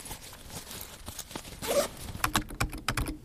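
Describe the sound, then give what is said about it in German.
Quiet ambience in the library at Campus Lingen with bursts of keyboard typing, irregular soft clicks and taps that grow busier toward the end, plus faint rustling and no voices. “Und jetzt wieder in der Bibliothek am Campus Lingen.”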